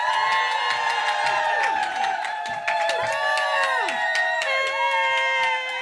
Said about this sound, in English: Please scream, cheer, whoop, clap.